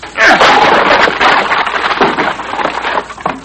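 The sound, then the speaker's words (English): A house door is forced open on a repeated attempt, with a loud, sustained splintering crash of breaking wood, cracking and crunching for several seconds in a dense, harsh burst with no speech. “I'm going to crack that door open. Once more ought to do the trick.”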